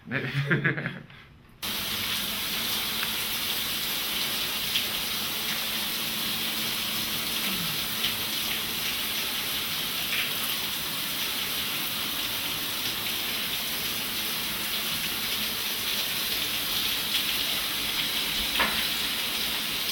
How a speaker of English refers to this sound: Okay, so now go ahead and go take a shower. Okay, great.